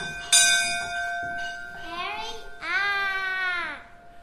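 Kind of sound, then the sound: signal or alarm, ship's bell being rung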